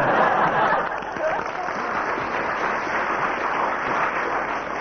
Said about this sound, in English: First applause from the audience, so that has 3 marks.